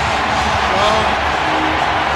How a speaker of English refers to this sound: A three-run home run! Hoskins! That was so big. His first postseason home run! And he's sprinting around third base! Listen to that crowd.